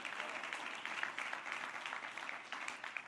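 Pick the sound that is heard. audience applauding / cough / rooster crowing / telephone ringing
audience applauding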